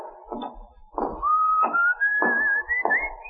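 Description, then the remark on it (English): A clear, steady whistle rises slowly in pitch over a couple of seconds, heard over a run of regular muffled thuds, like footsteps, with no talking. “What's your whistling?”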